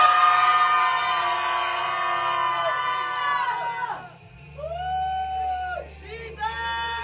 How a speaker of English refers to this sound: On the count of three, everybody gonna open up their mouth and scream as loud as you can, please. 1, 2, 3, scream.